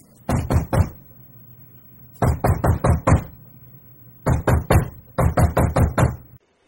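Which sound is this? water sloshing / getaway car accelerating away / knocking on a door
knocking on a door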